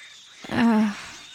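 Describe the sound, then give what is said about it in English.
A single drawn-out cat yowl, from a cat fighting a group of mice, rises and holds for about half a second, fairly loud, with a faint hiss of background noise around it and no talking. “The mice are fucking that cat up. Yeah, one cat against all these mice.”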